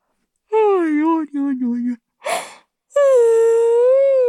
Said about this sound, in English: Well, it's meant to be a fake yawn. I mean, real yawn.